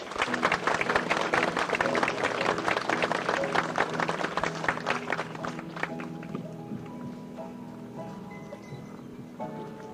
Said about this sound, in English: Again, let's have a round of applause for these fine young ladies.